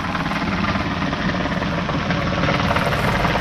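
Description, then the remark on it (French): A diesel boat engine recorded underwater in the sea: a loud, steady mechanical drone with a dense low throb and rumbling vibration that holds constant throughout, with no voices. “Ça, c'est un moteur diesel”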